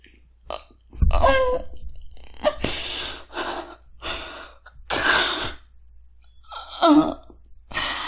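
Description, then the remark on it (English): Wet, throaty gulping sounds come in irregular bursts, mixed with breathy gasps and sighs, moderately loud, with no speech. “I love those gulping sounds you're making while you look into my eyes.”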